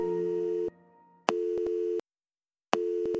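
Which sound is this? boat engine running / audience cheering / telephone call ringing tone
telephone call ringing tone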